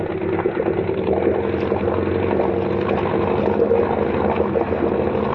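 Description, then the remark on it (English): A motorboat engine running hard at about 2,800 RPM, a loud, steady drone with a throbbing low rumble that holds constant throughout, with no voices. “Turning up 2,800. Yeah, still a little hot. I want 3,000.”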